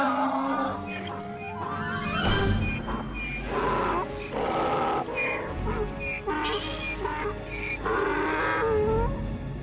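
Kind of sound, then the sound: animal, donkey braying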